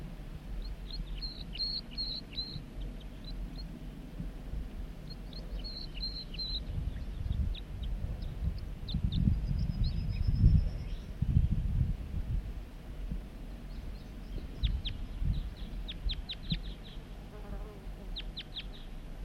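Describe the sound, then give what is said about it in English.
A wild male bird sings faintly from the top of a big dead snag in short bursts of high, thin chirps, repeated a few times over a steady low rumble and a buzzing insect. “So recording the wild male from the top of the dead snag.”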